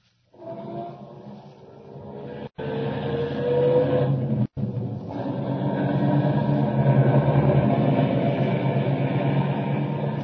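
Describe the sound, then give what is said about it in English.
A car engine rumbles to life and revs, its rising drone growing steadily louder and fuller as the vehicle pulls away, with two brief dropouts breaking the otherwise continuous noise. “Start up the car.”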